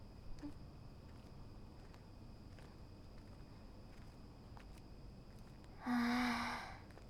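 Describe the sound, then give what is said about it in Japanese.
Autumn insects trill steadily and faintly during a walk through the whole stretch, a thin high-pitched drone over soft outdoor ambience, with a brief breathy rustle near the end and no talking. “泣いてる虫も秋の子ですね。”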